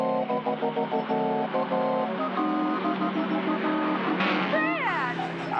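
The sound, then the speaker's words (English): A car engine drones steadily and then revs higher, its pitch climbing in quick rising sweeps as it accelerates past a string of heavy trucks, loud throughout. “I'm getting up speed to pass the truck up ahead.”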